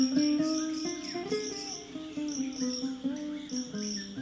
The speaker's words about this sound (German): Das Gezwitscher der Vögel verwirrt in diesem Meer aus Sand und Steinen. Die Frische des Morgentaus auf dem sattgrünen Rasen ist wie ein Wunder, während jenseits der Sekem-Farm der Wüstenwind den Staub über den rissigen Boden treibt.